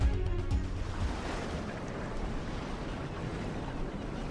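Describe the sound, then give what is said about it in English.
A fishing boat's low engine rumble churns briefly at the start, then a steady wash of ocean waves and wind fills the rest, with no voices. “so I'm going to do the fishing boat thing.”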